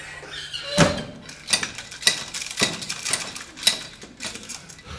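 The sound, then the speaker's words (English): A thick oak front door of a house shuts, followed by a series of sharp clunks and scraping rattles as it is bolted, five or so distinct knocks with no voices. “He ran through his front garden and flew into the house, bolting the thick oak door behind him.”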